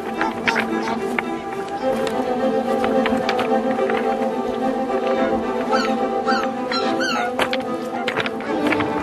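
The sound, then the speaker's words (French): Footsteps crunch across a stretch of pebbles in a wetland area in a steady, irregular rhythm of sharp gritty clicks, with a soft, constant rush of light wind behind them and no voices. “Et encore un petit passage de galet, toujours un peu de vent”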